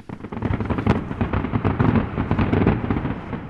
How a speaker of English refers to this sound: Fireworks and gunfire, possibly celebration at news of the government's success in the east.